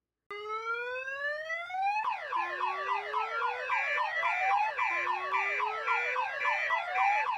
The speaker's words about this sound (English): The night was filled with clanging, screaming, whooping car alarms.